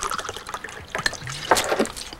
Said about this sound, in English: He pours more whiskey into the glass and drops surgical instruments into it.